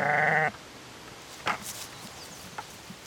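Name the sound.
sheep bleating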